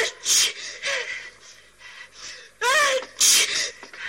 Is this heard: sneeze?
yes